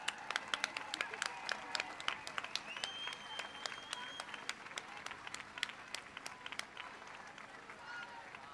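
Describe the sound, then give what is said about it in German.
A crowd applauds steadily outdoors at a feminist rally, dense overlapping claps sustained throughout, with a few faint cheers and whistles rising over the clapping. “Für einen kommunistischen Feminismus. Applaus.”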